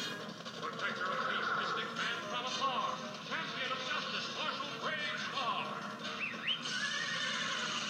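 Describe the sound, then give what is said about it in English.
A horse whinnies in an animated cartoon intro with shrill, wavering neighs that rise and fall across a dense, loud wash of music and sound effects, several cries repeating over a few seconds. “This horse just turned into a fucking horse man?”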